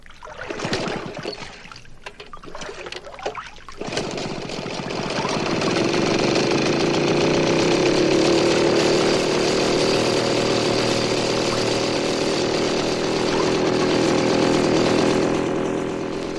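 boat outboard motor running

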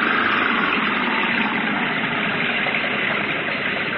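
car engine revving

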